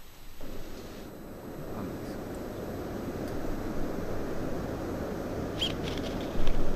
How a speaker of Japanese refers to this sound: 多分ヒヨドリと、